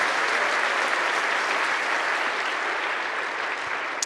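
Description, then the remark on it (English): An audience claps steadily after a prayer, in a dense, sustained round of applause for a group of people that holds at an even, fairly loud level for several seconds, with no voices standing out. “Let's give another round of applause for these wonderful people.”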